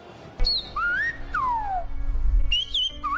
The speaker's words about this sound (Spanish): Es el silbo gomero, el lenguaje... Me lo imaginaba. El lenguaje por silbidos en la isla de La Gomera, reconocido en 2009, es el único lenguaje silbado del mundo